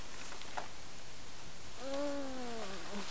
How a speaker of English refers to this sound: What are you doing under there? You under there again? Be careful. Kitty cat says, no way. No way, you're not getting me.